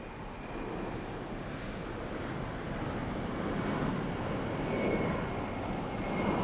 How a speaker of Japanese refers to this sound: あ、ほら見て、あの飛行機これから離陸するよ。なんか見てる方もドキドキしちゃうね。